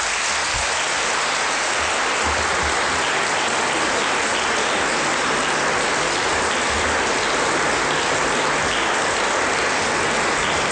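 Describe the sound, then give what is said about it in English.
Sustained applause from an audience for the planning committee, a dense, steady patter of many hands clapping at once without pause, fairly loud and continuous throughout, with no voices rising above it. “I think the planning committee deserves a round of applause, to be honest with you.”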